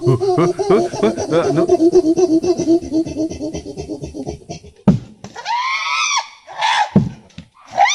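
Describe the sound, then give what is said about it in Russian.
A person imitates the rhythmic squealing of West African chimpanzees standing with a stone at a hollow tree: a run of quick rhythmic, breathy panting hoots, then several loud, high rising squeals, alone with no speech. “Потом начинают так повизгивать ритмично.”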